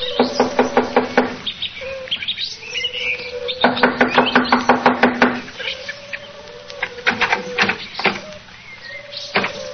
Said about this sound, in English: Here we are. I'll knock on the door.